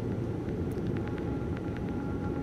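A steady, dense low rumble of an airplane fills the whole stretch at an even loudness, with a few faint clicks and ticks on top and no voices.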